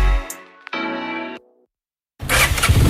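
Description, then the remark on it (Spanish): A Honda Forza 125 motor scooter's starter whirs for under a second, then after a brief silence the engine catches and revs loudly, with no voices. “Andy Auto te lo ponemos muy fácil para que estrenes tu nueva Honda Forza 125”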